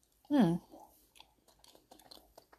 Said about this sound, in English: I am munching on some sugar cookie dough right now. You know, I probably shouldn't. It's the, Pillsbury Doughboy, the, Christmas tree, you know, cookies, you know what I'm talking about? Raw cookie dough is where it's at.